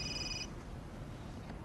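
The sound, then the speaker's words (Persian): A short electronic mobile phone ring sounds for about half a second, two steady high tones together, then cuts off, leaving a low background rumble with no one speaking. “موبایل تو با خودت آوردی؟”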